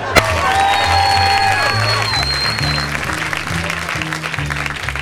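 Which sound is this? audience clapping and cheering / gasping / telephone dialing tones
audience clapping and cheering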